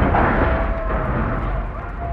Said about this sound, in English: There goes my insurance. I'll stick to old bangers from now on. I think Jastrok blew up our cars to intimidate us.